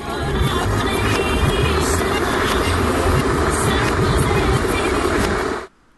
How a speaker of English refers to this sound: That is Kettle featuring an artist, because the kettle's so loud.